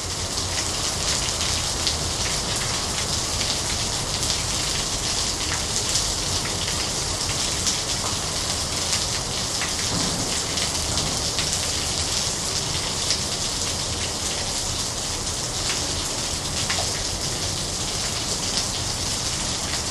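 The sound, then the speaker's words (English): Heavy monsoon rain in Chiang Mai, Thailand pours steadily, a dense, continuous hiss of drops drumming on surfaces with no break for the whole stretch. No voices, just the constant downpour. “You're listening to 60 seconds of a monsoon rain in Chiang Mai, Thailand.”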